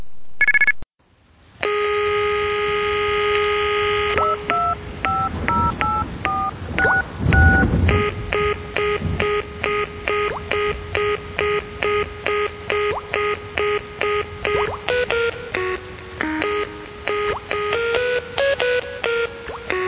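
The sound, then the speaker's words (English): Loud electronic TTY tones for hearing- and speech-impaired callers, played on a phone line after a recorded message: a rapid, continuous string of beeping data tones shifting between pitches, like a teletype modem chattering, with no voices. “The following tones are for our customers who are hearing and speech impaired. Please hold the phone away from your ear, for the tones are very loud.”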